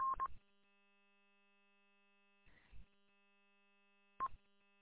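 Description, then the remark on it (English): Short DTMF telephone keypad tones sound in three separate bursts spread across a few seconds, each a brief beep with a soft click, over a faint steady hum and otherwise quiet line. “I mean, I got my bat phone. I got my VoIP service. You know, I've still got to program some speed dial numbers in there.”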